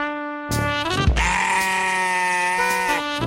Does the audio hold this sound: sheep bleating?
yes